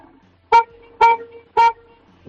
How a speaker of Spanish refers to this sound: Así que vamos a darle tres toques. Sí, que no tengo la cabeza muy mal. Dale tres toquecillos cortos a ver cómo suena tu coche.